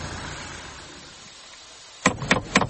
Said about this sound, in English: What are you doing knocking this door? I was just calling to see this woman who'd advertised dogs for sale. I was going to get one for Christmas.